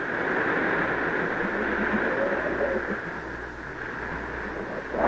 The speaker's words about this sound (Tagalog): Walang ano-ano'y humihipang malakas na hangin. Dumating ang isang napakalakas na bagyo. Gumiwang-giwang ang bangka. Tumaas ang malakas na alon at sumalpok sa bangka. Natakot ang mga alagad sapagkat pabagsik ng pabagsik ang unos.